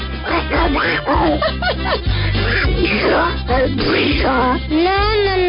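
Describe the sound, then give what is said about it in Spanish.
A voice imitates a duck with loud, rapid, garbled quacking that runs in close, squawky bursts for several seconds, rising and falling in pitch over a steady low hum. “es más fácil que hable mi Aurice que este pato”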